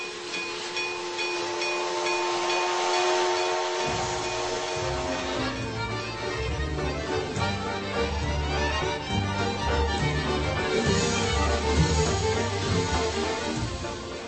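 A steam train pulls in on the stage of the National Theatre in Prague, turned into a railway station for an evening awards ceremony; its whistle sounds over a steady hiss before a heavy, rhythmic chugging takes over, loud, with no voices.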